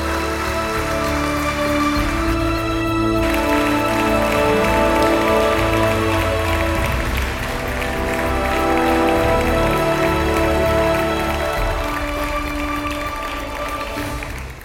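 Steady, dense audience applause welcoming Minister of State Bernd Neumann, the federal government's commissioner for culture and media and a patron of the evening, lasts the whole stretch, a continuous crackling wash of clapping at a fairly loud level that swells slightly midway, with music running underneath.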